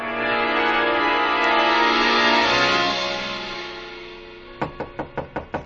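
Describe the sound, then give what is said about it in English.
Six quick, evenly spaced knocks rap on a hotel room door, loud, from a bellhop, arriving right after a sustained, droning musical tone fades away. No one speaks. “The knock surprised me. I'd forgotten about the bellhop. I got up to go to the door”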